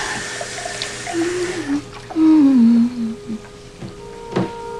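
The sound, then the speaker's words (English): Water pours into a glass taken from a cupboard, its gurgling pitch rising as the glass fills over a couple of seconds, followed by a soft knock. No one speaks. “She fills it with water as Lisa watches.”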